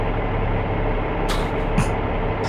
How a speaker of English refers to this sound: This is just like an AC unit. It's 10 hours of a diesel truck idling.